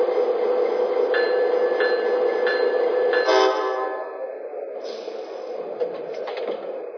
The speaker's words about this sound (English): Chicago Union Station on track 2, train number 6, the California Zephyr.